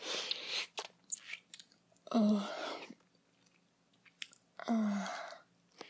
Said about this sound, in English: Your girlfriend will always clean the last bit of spunk right off your cock. And slurp it off the mirror.